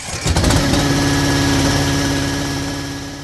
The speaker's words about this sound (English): Nawjock fires up the sprayer.